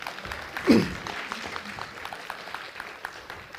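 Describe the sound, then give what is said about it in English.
An audience applauds a reader after a long scripture reading, a dense patter of many hands clapping steadily throughout, swelling briefly near the start and then holding at a moderate, even level with no voices. “Lisa deserves a substantial round of applause because she's just read a lot.”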